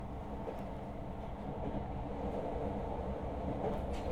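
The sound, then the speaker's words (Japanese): A train sways, rumbles and rattles along the rails through a sharp curve in a steady, continuous low roar, with no one speaking. “電車が揺れたから私のせいじゃないもん。”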